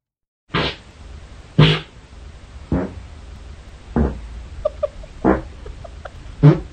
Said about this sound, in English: He just farted all night. That's actual... Yes. Play that again. That's the rhythm. Well, you see, the thing is, it's noise activated.